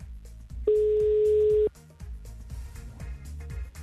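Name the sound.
telephone ringback tone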